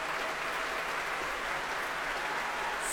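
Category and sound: crowd, concert hall audience applause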